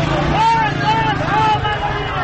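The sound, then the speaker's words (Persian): Motorcycle engines rumble and rev within a dense crowd of protesters at Darvazeh Shiraz in Isfahan, Iran, opposing the presidential election result. Their voices rise in repeated chanting swells over a constant, loud roar of street noise. “در اصفهان صدای پراکنده شعارهای مردم با صدای موتورهایی که لابلای جمعیت آمدند در هم می‌پیچد.”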